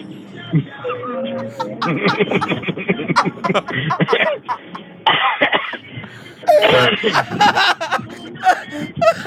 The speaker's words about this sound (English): You're doing the thing where you laugh so hard you start coughing.